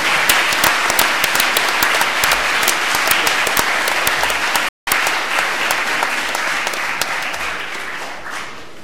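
Sustained audience applause for the second-place winners of a competition, the team die gotischen Systemquäler: a dense wash of many hands clapping at steady loudness, briefly cut by a split-second gap near the middle before continuing and slowly tapering toward the end.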